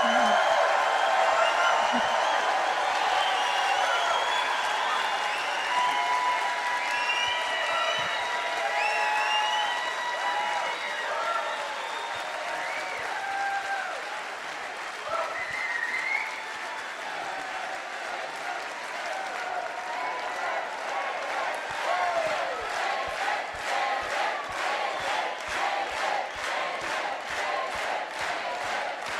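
A large audience applauds steadily for about half a minute, dense clapping mixed with whoops and cheers early on, settling into rhythmic clapping toward the end.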